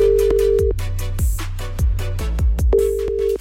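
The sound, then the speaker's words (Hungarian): A steady telephone tone sounds in two stretches as a call is placed, briefly cut off in between, over a thumping, pulsing musical beat with no one speaking. “megadta nekem a címzett telefonszámát, úgyhogy Dr. Szikora intézkedik”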